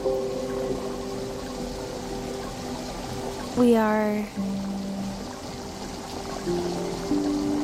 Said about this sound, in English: continuing to boil some water as well as fry some bacon here in the studio. We've got things brewing.